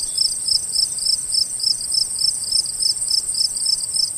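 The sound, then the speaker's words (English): Crickets chirp steadily in a continuous high-pitched chorus of rapid, evenly spaced pulses. They sound clear, with no voices or other sounds. “Cue crickets.”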